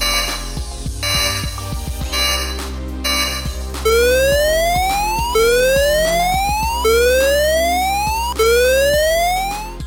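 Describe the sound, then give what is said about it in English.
A loud electronic siren repeatedly sweeps upward in pitch, four rising whoops in steady succession, following a few seconds of dense, clattering noise. No one speaks. “Sound the sirens.”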